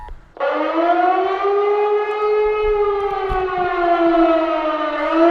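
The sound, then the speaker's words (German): A civil defense siren mounted on a lamppost, sounding a test alarm just before 11 o'clock, starts abruptly and holds a loud, steady wail with rich harmonics, dominating the scene, with faint low rumbling beneath it. “So, und jetzt geht's hier auch mit der Sirene los. Man hört's ganz schön laut hier unterm Laternenpfahl.”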